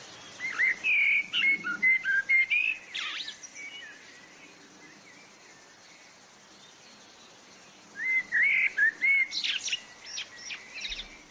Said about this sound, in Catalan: Doncs bé, això era el preciós i melòdic cant de la merla. La merla té aquest cant melòdic molt potent.